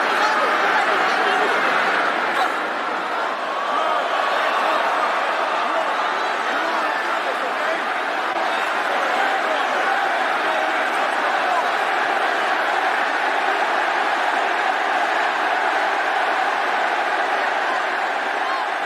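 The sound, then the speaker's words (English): A large wrestling arena crowd roars and cheers continuously, a loud, dense wall of voices that swells slightly at the start and holds steady throughout, with no clear individual words, during a mixed tag match with Kurt Angle, Ronda Rousey, Stephanie McMahon and Triple H, as Angle puts an ankle lock on Stephanie McMahon. “Oh, the crowd wanted it, Kurt.”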